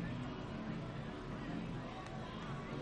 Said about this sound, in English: Crowd still filing in. Not as big a crowd as it would have been without that nasty storm, which moved down from St. Augustine right around 5 o'clock. Probably kept some people home.